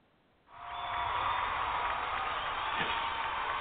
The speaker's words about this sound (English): So let's get that up for Keira Knorr. I think Keira Knorr deserves a little applause. Let me see if I can find some applause. Get some Keira Knorr some applause.